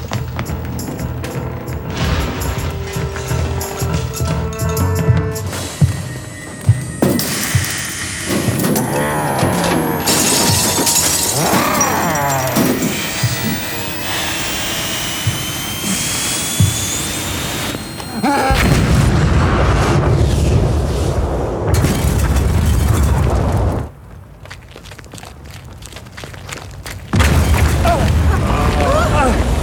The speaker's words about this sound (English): You think it's dead? He couldn't have survived that explosion.